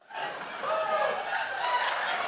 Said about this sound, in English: Oh my gosh, if you're listening to this later, all the scientists in the museum just applauded me.